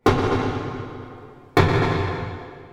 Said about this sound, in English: Here's what pile driving sounds like when you record it that way. Water muffles the sound, so as a human listening to this, it probably doesn't sound so bad, right? But to a fish, it's like the sound of firing a gun next to your head.